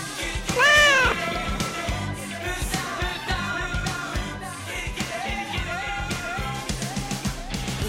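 A loud, close cat meow rises and falls near the start, followed by a few fainter mewing sounds over a busy background of music or broadcast noise.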